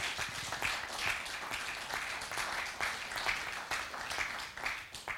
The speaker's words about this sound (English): Fantastic. Thank you very much. Can you give yourselves a clap? Give the team down here a clap.